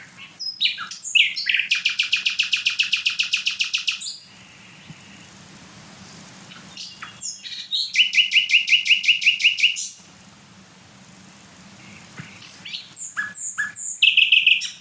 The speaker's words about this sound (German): Also achtet einfach mal auf diese abwechslungsreichen Motive. Und ich meine, der Vogel ist kleiner als eine Amsel. Das ist, auch wenn jetzt kein anderer Vogel singt und so weiter, mega laut trotzdem.